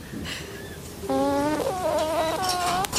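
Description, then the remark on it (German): A porcupine gives high, whiny squeals: a faint cry first, then a louder, continuous run of nasal, wavering calls that rise and dip in pitch, with no talking. “Ja, das war also das Stachelschwein.”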